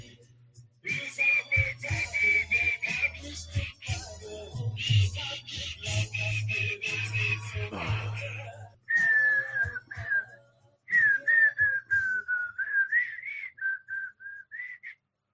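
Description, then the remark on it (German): Someone whistles a tune, holding long steady notes in connected phrases with a few short pauses, over a low droning hum during the first half. “Wenn dir das nicht passt, dass ich rumpfeife, dann verpiss dich.”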